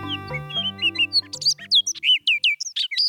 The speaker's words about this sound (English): This bird song sounds like a nasally imitation of a robin, and the bird singing it is a rusty brown riff on a Baltimore Oriole. Called the Orchard Oriole, males have chestnut-colored breasts and black backs and wings